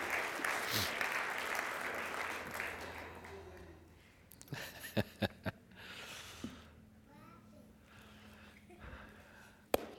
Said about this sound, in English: Let's give her a big warm round of applause.